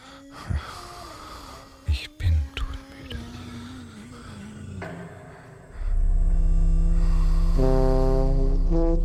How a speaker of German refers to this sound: Neben mir höre ich ihn atmen. Keine entspannte Schlafatmung. Eher die unregelmäßige Grübelatmung, gespickt mit leisen Seufzern. Schnaufsignale, die auf ein schlecht verdautes Gespräch hindeuten.